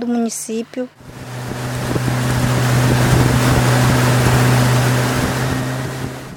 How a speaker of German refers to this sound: Mit dem Boot der indigenen Organisation Copimi geht es weiter auf dem Rio Negro.